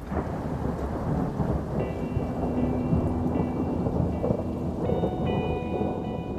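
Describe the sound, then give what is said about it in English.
Steady, dense rain pours down continuously, with a deep rumble of thunder rolling underneath. No one speaks, and the downpour stays at an even, fairly loud level throughout. “And the day of the 1500, it started to rain.”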